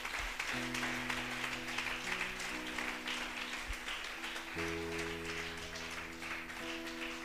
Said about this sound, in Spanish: Dele ese aplauso al Rey de la Gloria, hermanos.